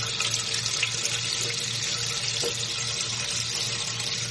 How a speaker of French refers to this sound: Tu peux laver la casserole, tu peux la rincer à l'eau, quoi, histoire d'enlever tous les petits débris qui se sont mis, voilà. Je la rince. Tu peux la rincer à l'eau.